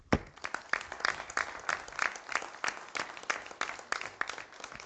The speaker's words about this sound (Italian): e credo che sia per questo che a nome di tutta la nostra comunità vi meritiate da parte nostra un grande applauso.